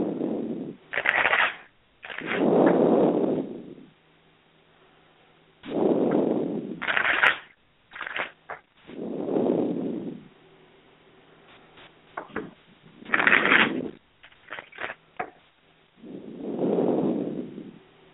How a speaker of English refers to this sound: And I'm going to go ahead and shuffle for you right now, okay?